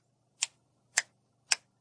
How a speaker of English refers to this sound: Counted, this would sound like so. I'll say it for you using my finger snap as the foot tap.